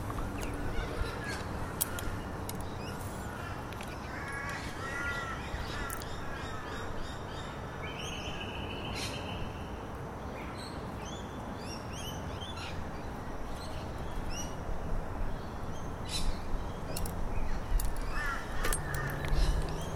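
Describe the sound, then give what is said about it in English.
A loud, dense chorus of crows cawing overhead over one another, harsh repeated calls stacking up with no pause, growing even busier toward the end. “These birds are mad.”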